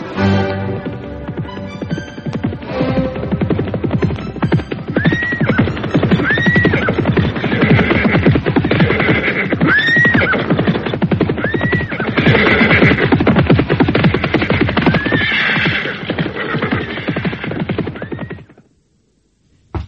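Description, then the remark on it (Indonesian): Ten horses whinny and neigh over and over amid a dense, busy clatter, as if a herd is moving together, loud for most of the stretch before it cuts off. “Kalau begitu, siapkan 10 ekor kuda yang paling gagah.”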